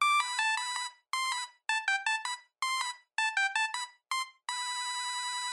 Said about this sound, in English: By 2004, Zinky was one of the biggest ringtone producers in the world. The company says it was selling 2.5 million ringtones a month. And these were basic monophonic ringtones, simple bleeps and bloops, like this.